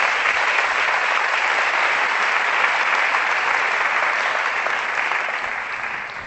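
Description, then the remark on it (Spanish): An audience applauds the fathers steadily, a dense wash of many hands clapping at an even, loud level throughout before tapering off slightly at the very end. “Los papás, un aplauso para los papás.”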